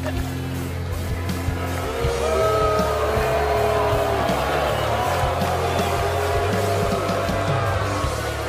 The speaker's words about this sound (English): The booing is okay. It just means you're hockey ready.